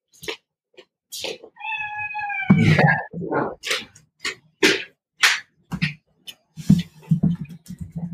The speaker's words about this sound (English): Sorry, I have a cat in the background.